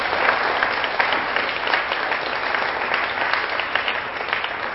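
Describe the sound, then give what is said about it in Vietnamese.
Loud, sustained applause from a large group of children honoring charitable sponsors, a dense rapid patter of many hands clapping at once, steady in volume throughout with no voices standing out. “Trước khi vào phần này thì tất cả các con hãy cho một tràng vỗ tay thật là lớn để tán dương mạnh thường quân.”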